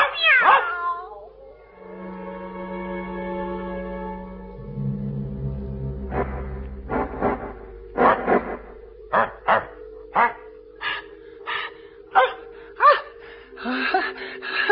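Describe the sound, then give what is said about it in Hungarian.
A cat and a dog, until then curled up at the foot of a cupboard, cry out at once: the cat with long drawn meows, the dog barking in a run of short, sharp yelps, the two voices overlapping and growing busier toward the end. “A kutya és a macska eddig összegömbölyödve hevert a szekrény lábánál. Most egyszerre nagyot kiáltanak.”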